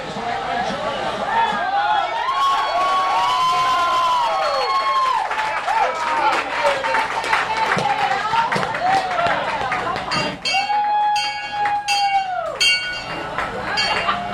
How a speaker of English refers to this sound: Plus Packer fans erupted in cheers at Glory Days Sports Pub in La Crosse after the Packers' first touchdown against the Detroit Lions in their home opener.